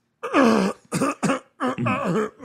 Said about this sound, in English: Because let me tell you, you want me to cough in a movie? I could do a great one.